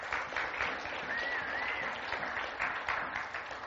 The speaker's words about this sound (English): And so teachers who have served and now get a couple months off, thank you. You are doing meaningful work. There are some of you teachers. Yep, you can clap for that.